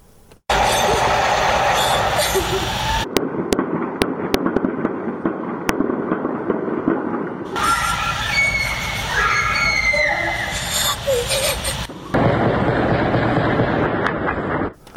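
Sharp gunshot cracks ring out in scattered bursts, echoing over a dense, noisy street scene with shouting from a crowd; gunfire heard from various parts of the city of Mahabad, West Azerbaijan province, as security forces and special units with war weapons and armored vehicles entered the city.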